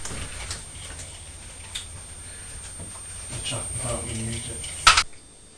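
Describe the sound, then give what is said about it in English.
A clock smeared with yoghurt ticks steadily and faintly, with some voice-like sounds midway and a brief sharp burst of noise near the end. “You've spread yoghurt all over the clock.”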